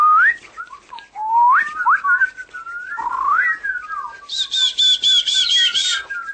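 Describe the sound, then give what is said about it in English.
Whistled imitations of forest bird calls, performed as part of an imitation of an African rainstorm: a string of quick rising and sliding chirps, then a bright, rapid run of repeated piping notes near the end, clear with no talking. “And then the animals obviously are around as the rain isn't too hard. So you hear the birds.”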